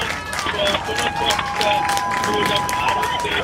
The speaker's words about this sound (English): As you can hear, more cheering here.